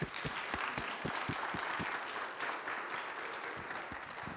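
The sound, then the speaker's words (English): A church audience at Northwest Baptist Church applauds to welcome guest speaker Pastor Frank Duncan, a steady wash of many hands clapping with sharp individual claps poking through, sustained at an even level for several seconds with no talking. “So let's give a round of applause for Pastor Frank Duncan.”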